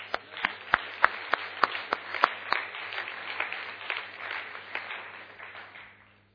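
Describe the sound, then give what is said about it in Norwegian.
Applause from an audience: a burst of many hands clapping, punctuated by several sharp, loud individual claps early on, then thinning out and fading away over a few seconds. “Jeg har meg nesten gi et klapp for.”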